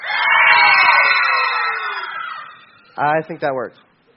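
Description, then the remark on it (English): An audience of kids and their parents screams loudly together on a count of three, the kids trying to out-scream their parents, for about two seconds, the roar slowly fading, followed by a man speaking briefly. “And this time, kids, I want to see if you can out-scream your parents.”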